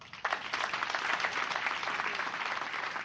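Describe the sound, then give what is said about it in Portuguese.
Dozens of people in Redondela burst into sustained applause for a speech about free love, many hands clapping in a dense, steady roar that starts abruptly and holds at an even, loud level throughout. “Pois dúcias de persoas que aplaudían este discurso de María González, coñecida en Redondela como María da Montera”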